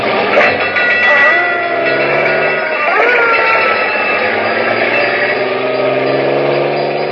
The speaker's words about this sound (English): We're headed straight for Let's Pretend and the story of Bluebeard, a fire engine with a clang, clang, clang. Let's go!